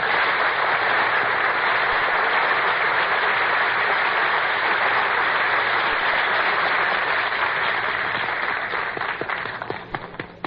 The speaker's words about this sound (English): Dooley, you're not supposed to applaud yourself. Mr. Announcer, I'm not applauding myself. I'm applauding because I know what's coming.